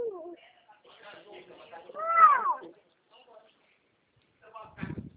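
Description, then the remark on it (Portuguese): A baby lets out one loud, wavering cry in the middle, rising and then falling in pitch, with quiet voices talking before it and a short burst of speech at the end. “Eu tô escutando, acho que você tá com um bebê, né?”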